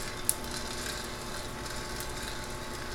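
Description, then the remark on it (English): A single sharp, crisp pop of a coffee bean cracking during roasting, rising briefly above a steady, even whooshing hum of the roaster. No one speaks. “And you can hear it starting to pop.”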